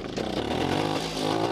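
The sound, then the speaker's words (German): A 57-year-old DKW two-stroke motorcycle engine runs steadily, blowing thick blue two-stroke smoke from the exhaust; a loud, continuous buzzing rattle that holds an even pace throughout with no voices over it. “Das 57 Jahre alte Motorrad bläst dicke blaue Zweitaktwolken aus dem Auspuff und knattert wie am ersten Tag munter vor sich hin.”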